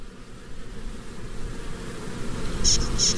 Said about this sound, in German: Ihr Bienen, dort hinten ist der Dieb. Haltet ihn fest. Das mache ich doch gerne. Auf ihn mit Gesumm.